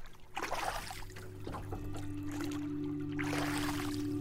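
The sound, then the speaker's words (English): Water sloshes, splashes and trickles in uneven bursts as a small boat built of scrap wood is lowered into the water by a group of seven people, with a steady low hum droning underneath throughout. “I imagine as they lower their boat into the water, they feel the weight of their decisions, all here, all made of scrap wood and built on faith.”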